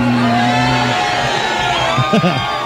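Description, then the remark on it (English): A crowd cheers as a man bites off and eats his own toenail, a loud, steady roar of mixed voices, with a held, tone-like note at the start and a few rising whoops and shouts near the end. “And our crowd loves it”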